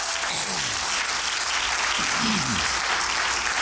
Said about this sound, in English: Can we give God a hand clap of praise before I teach?